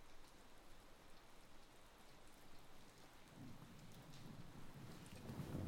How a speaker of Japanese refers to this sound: 雨、止まないね。